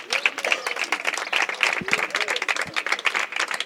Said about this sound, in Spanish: Ahora vamos a ver si se encuentran por ahí las chicas de Pilates y yoga, o todavía no han llegado. Sí, un aplauso.